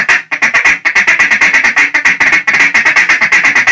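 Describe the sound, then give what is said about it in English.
A rapid, steady run of sharp clucking notes from a duck call, a fast, hard, aggressive feed chuckle with single and double cuts rolling together, loud with no pauses. “So I like single hard aggressive feed. So this is like single cut mixing with some double cut.”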